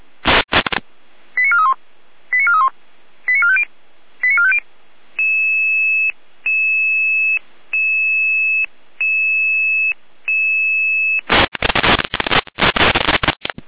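Radio dispatch alerting tones alerting Red Cross units in Saalfeld: four quick chirping bursts, then a run of steady, evenly spaced electronic tones, with loud bursts of radio static at the start and end. No one speaks.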